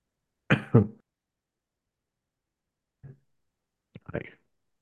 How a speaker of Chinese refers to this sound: 对不起，一直咳嗽